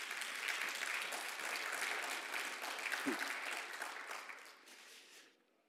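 A room full of people claps steadily, applauding the speaker becoming a grandparent for the 15th time, in a dense, even burst of applause that holds for several seconds, then tapers off and fades out near the end.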